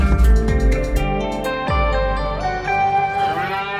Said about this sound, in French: Bon, on ne sait pas si elles sont vraiment du Qatar, ces vaches qu'on entend, mais en tout cas, l'or blanc du Qatar, c'est bien le lait de vache.